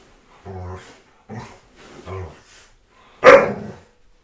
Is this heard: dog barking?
yes